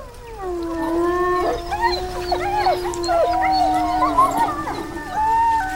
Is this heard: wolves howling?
yes